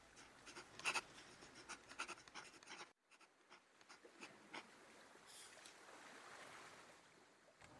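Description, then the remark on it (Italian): Scratchy writing sounds blend into a steady rushing hiss like surf, a sea-like noise heard only while writing that stops when the writing stops, cutting out briefly partway through before resuming. No voices. “ma tu lo senti questo rumore del mare? Mentre è solo quando scrivo, poi si ferma quando mi fermo.”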